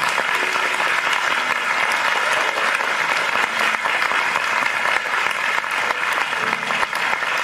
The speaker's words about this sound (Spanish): Queremos dar gracias, gloria a Dios, y gracias a ustedes, y le damos un aplauso, ¿verdad?